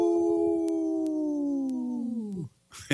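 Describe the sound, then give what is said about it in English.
A long, sustained wolf-like howl holds a steady pitch for over two seconds, then slides downward and fades out, followed by a brief burst of noise at the end. “We'll get you to howl next time, Shelly, now that we surprised that on you.”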